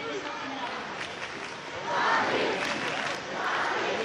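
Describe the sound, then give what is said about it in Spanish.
A large crowd at the Puerta de Alcalá in Madrid roars and cheers during the International Olympic Committee vote, in a dense, continuous wash of many voices that swells louder twice, with no single voice standing out. “Sonido de la Puerta de Alcalá.”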